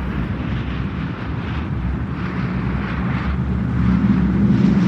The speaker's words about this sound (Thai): เหตุเกิดเมื่อบ่ายวันหนึ่งที่อากาศร้อนอบอ้าวในช่วงเดือนเมษายนปี2538เครื่องบินลำใหญ่ได้ทะยานขึ้นจากพนมเปญมุ่งสู่ประเทศไทย